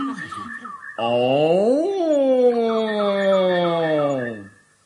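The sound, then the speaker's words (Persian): After a brief vocal sound, a person's voice lets out a long, loud imitation of a lion's roar. It swells upward, then slowly slides down in pitch, almost like a howl or moo. “همون نعره وحشتناکی که مو به تن تمام موجودات روی زمین راست میکنه.”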